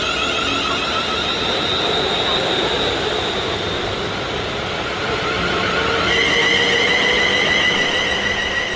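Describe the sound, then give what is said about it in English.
A diesel train rumbles steadily in Norfolk, a dense engine roar with high whining tones on top, swelling slightly louder toward the end as it approaches. “Across Norfolk, the rumble of an approaching train and that mix of diesel and tar that smells like travel are joined by the scent of flowers, the hum of bees and the chat of devoted gardeners.”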